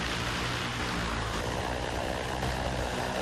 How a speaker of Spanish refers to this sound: Y es que aunque este último sonido también te parezca de ciencia ficción o te recuerde a un helicóptero, no es nada de eso. Mejor dicho, o más bien, es una mezcla de ambos. Es uno de los primeros prototipos de taxis voladores que ya están en marcha.